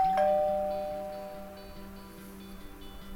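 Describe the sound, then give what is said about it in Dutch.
A doorbell at the home of a woman who took a photo rings once with a bright, sharp chime that slowly fades out over a few seconds, leaving a faint low hum beneath it. No one speaks. “Nou, dan moeten we maar eens aanbellen bij de vrouw die foto maakte”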